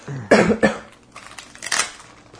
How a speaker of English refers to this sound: Whoops, I'm dropping my dice.